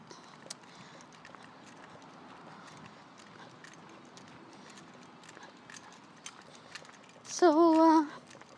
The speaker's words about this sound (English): I couldn't resist because of the bird song. So I'll stay a few... silent a few minutes so that you hear some of that along with other motor noises.